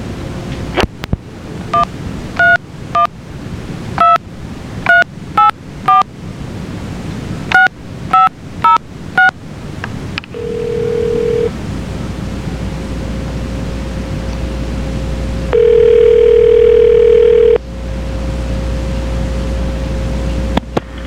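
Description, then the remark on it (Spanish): A rapid sequence of telephone keypad dialing tones in short bursts as a phone call is transferred to Chicago on 2 April 1994, followed by steady line tones and a longer electronic beep over a hissy, noisy phone line. No one speaks. “Bien, vaya a hacer el pase para Chicago, espérate.”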